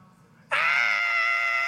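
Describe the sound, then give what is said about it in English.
A single voice suddenly breaks into a loud, sustained high-pitched scream, imitating a crowd of girls shrieking at a celebrity on a beach, holding steady for over a second after a brief quiet lead-in. “Like screaming fans all over the, you know, and then just running over these like sea of girls just running toward him, right?”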